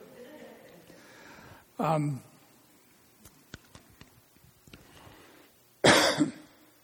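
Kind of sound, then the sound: human body sound, coughing fit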